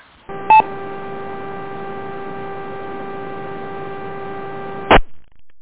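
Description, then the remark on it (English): A radio carrier opens with a brief click and tone burst, then holds a steady humming buzz with harmonic overtones and no voice for several seconds before cutting off with a squelch tail. “I heard someone key up there, but no audio.”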